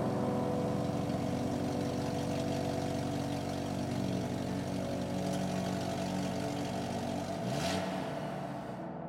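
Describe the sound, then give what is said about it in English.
A car engine hums steadily from inside the vehicle while driving, with a low continuous drone and road noise; near the end a brief whoosh rises as traffic passes close by. “I kiss my wife goodbye, get into my own car, and head out on my way.”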